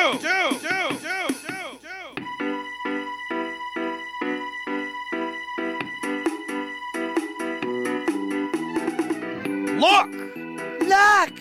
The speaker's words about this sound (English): Do you hear those bells? Do you hear bells? Yes. Yes, I do.